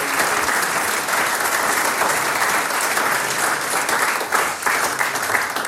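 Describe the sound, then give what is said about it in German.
Steady, dense applause from an audience in Eigen im Enstal fills the whole stretch, loud, with a continuous wash of many hands clapping and no clear pauses. “Ein großer Applaus des Baldhammer-Virtuosen derzeit.”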